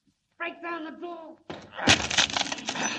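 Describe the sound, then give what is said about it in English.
A wooden door in the after hold of an abandoned ship is broken down to free a trapped man: after a brief shouted voice, a loud splintering crack bursts out, followed by a sustained, rough crunching and tearing of wood. “Break down the door.”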